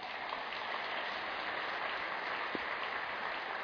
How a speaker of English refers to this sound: I'm seeing you, sir. Come on up. Big round of applause.